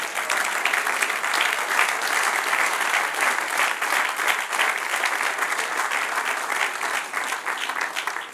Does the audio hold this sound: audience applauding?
yes